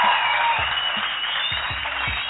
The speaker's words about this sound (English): Round of applause.